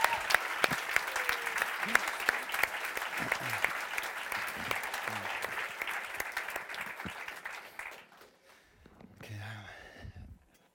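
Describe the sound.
Steady applause from a crowd, dense clapping at a fairly loud, even level for about eight seconds, then fading out as a voice starts speaking.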